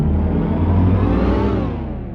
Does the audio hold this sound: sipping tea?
no